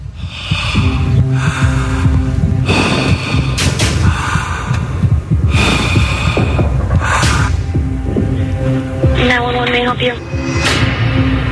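Heavy, rhythmic breathing over a phone line from a man out of breath on a reenacted 911 emergency call, loud breaths arriving every second or so against a steady electrical hum, with no clear words spoken.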